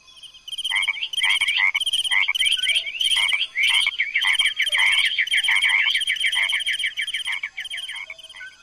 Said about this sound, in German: Eddie nimmt mit seinem Mikrofon alle Töne des Regenwaldes auf, über mehrere Tage und über mehrere Nächte, weil einige Tiere ja auch nur Nachtsgeräusche von sich geben.